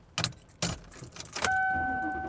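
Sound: keys jangling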